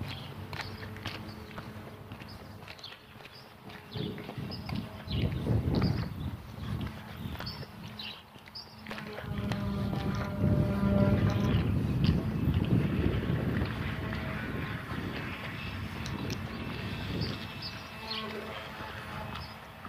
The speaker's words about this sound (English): Sander, that's what that is. Thought that's what it sounded like, but I couldn't tell if it was a sander or a vacuum cleaner. Power sander.